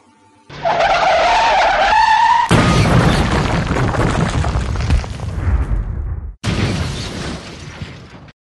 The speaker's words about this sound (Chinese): 10年前，他遇到一场重大车祸。